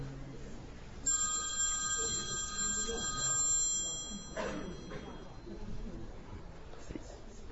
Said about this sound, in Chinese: 是哪个闹钟啊？